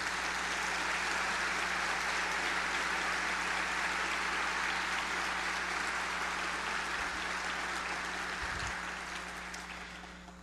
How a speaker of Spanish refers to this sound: Les pido, por favor, un aplauso para ellos.